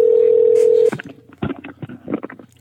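A steady telephone ringing tone hums loud and clear for about a second as a call is placed to a ticket seller, then cuts off into muffled, choppy line sounds like a call connecting.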